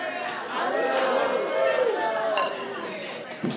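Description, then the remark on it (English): Glasses clink together in a toast amid a lively crowd's overlapping chatter, with a sharp bright chime standing out partway through the steady hubbub of voices. “And let's raise a glass.”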